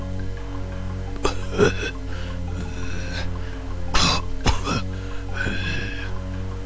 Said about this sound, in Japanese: 姿は見えない誰かがいつも自分の寝ているベッドの周りで苦しそうな咳払いをし、うめいているのです。